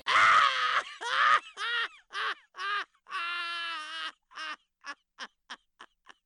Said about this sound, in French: Soudain, un diablotin sort de sa boîte.